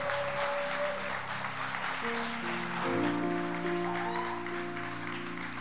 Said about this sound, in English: but let's make them seen, let's make them known, let's appreciate who they are and what they're doing. So can you give them a round of applause, please?